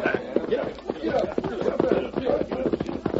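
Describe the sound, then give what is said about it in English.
Several horses' hooves clip-clop in a dense, uneven patter as riders move off together to round up horses and take them across the Rio Pronto, steady in loudness, with indistinct voices murmuring underneath. “Take the fellas and round them horses up.”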